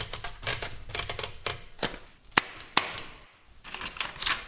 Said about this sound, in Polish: Taki ciąg liter, które mają pokazać możliwości maszyny do pisania, trochę wielkich i małych liter, bo wiadomo, że one w konstrukcji maszyny są trochę inaczej wprowadzane, więc to należy, mówiąc najogólniej, sprawdzić